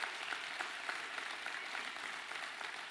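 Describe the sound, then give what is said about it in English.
A church audience applauds as the kids' church and youth group are dismissed. Many hands clap in a dense wash at an even, sustained level with no talking, the scattered claps blending into a continuous roar throughout. “So with that said, kids' church and our youth group is dismissed with a big old round of applause.”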